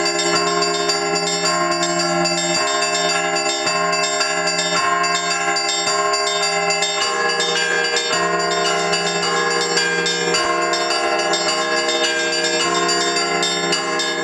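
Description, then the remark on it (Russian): Church bells ring out in a dense, continuous peal, several bells overlapping with rich sustained harmonics, loud with no voices. “Колокольный звон используется для обозначения начала и конца службы, для обозначения также элементов службы важных, таких как штаб псалми, чтение Евангелия, евхаристический канон, и для выражения торжества церкви.”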